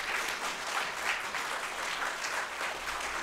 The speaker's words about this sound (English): I'll give them another round of applause. They deserve it.